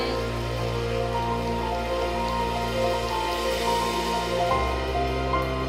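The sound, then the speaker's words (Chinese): A crowd claps steadily for several seconds, a dense, even patter of applause given to Jesus Christ after the Lord's Prayer at a Christian worship service, with sustained musical tones humming underneath and no voices. “我们继续将最大的掌声归给耶稣基督。”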